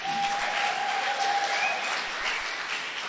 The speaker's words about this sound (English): Two other people who aren't here tonight, but we can give them a clap